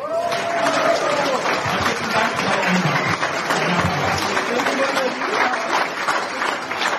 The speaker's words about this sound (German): Ein Applaus.